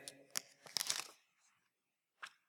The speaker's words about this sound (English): I actually brought these paper plates. I'm actually gonna lay them out here.